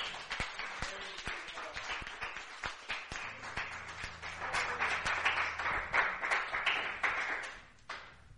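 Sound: audience cheering and clapping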